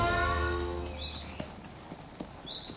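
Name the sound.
horse hooves clip-clopping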